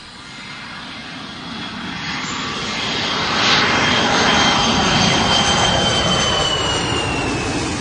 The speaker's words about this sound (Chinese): 刚才飞机降落的时候，近到可以跟天台的人握手那么挤，几刺激啊。